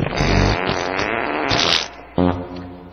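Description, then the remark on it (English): A woman's voice imitates a long, buzzing fart live with the lips, sputtering and vibrating for a couple of seconds, then a second shorter, loud raspberry burst follows. “by providing her own live oral generated fart sounds.”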